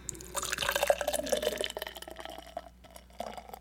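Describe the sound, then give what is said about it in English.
Beer poured into a glass in a poor pour that leaves too much foam head: a splashy, fizzing rush of liquid that swells in the first second or two, then thins into softer bubbling and trickles. No one speaks. “It was a terrible pour, but I needed the sound effect.”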